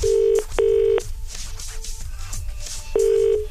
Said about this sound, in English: Right, let's ring someone. Here we go.